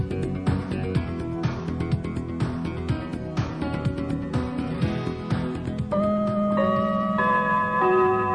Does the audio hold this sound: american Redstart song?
no